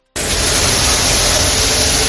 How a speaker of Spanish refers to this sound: Y este no es el sonido de un avión, es el de una barredora de Lipasan, que ha estado ya limpiando zonas del barrio del Plantinar. Es una actuación que forma parte de lo que el alcalde ha dado en llamar un zafarrancho de limpieza en los barrios.